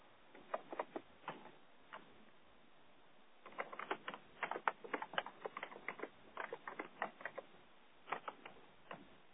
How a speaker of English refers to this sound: I can hear somebody typing away madly, which is great. Maybe they're adding to some great comments.